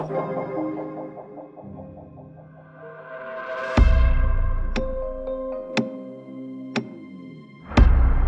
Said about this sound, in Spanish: El reloj del comedor acababa de dar la 1 de la madrugada y el sonido metálico de la campana repercutió siniestramente en todos los rincones, como si la muerte llamara desde la orilla del silencio a un nuevo huésped del misterio.